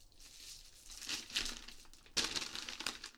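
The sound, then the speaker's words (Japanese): Newspaper crinkling and crumpling while roasted sweet potatoes are being taken out of a fire: a steady rustle that swells in the middle and ends in a sharp burst of crushing paper, with no voices. “そしたら火から取り出して、あっち、あっち、ちちちち、あ、ちょっとあんた、そこの新聞紙取って。”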